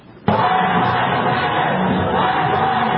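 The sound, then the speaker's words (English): A crowd of Black Lives Matter protesters interrupting a Jeb Bush rally suddenly erupts into loud, sustained shouting and chanting, a dense wall of yelling that holds steady without pause for several seconds. “That's interrupting the Jeb Bush event rally today.”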